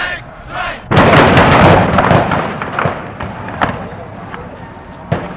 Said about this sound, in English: And then the guard shot some tear gas up on the hill to disperse the crowd, and the kids picked it up and threw it back. This area immediately. Leave this area immediately. And all of a sudden I heard the shooting.